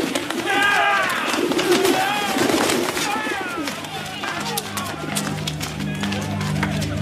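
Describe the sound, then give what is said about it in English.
Pigeons being sold at a market coo and warble, their calls overlapping amid a busy stir of rustling and possible wing flaps, with an indistinct murmur of voices in the background. “And he ordered those who sold pigeons, shake them out of here!”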